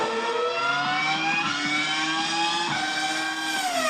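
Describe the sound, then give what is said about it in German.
Roaring petrol motor engines drone loudly and continuously, their layered high-pitched whine holding steady with slight pitch shifts, as if racing machines are passing. No voices are heard. “Die Motoren röhren, das Benzin explodiert, die Reifen reiben ab.”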